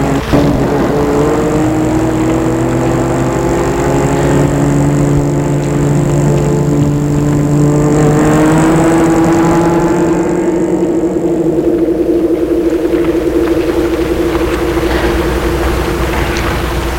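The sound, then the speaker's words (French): A car engine hums steadily as the car drives off into the night, its drone climbing slightly in pitch as it picks up speed, then holding a constant rumble for the rest of the stretch, with no voices. “Et la voiture s'enfonce dans la nuit.”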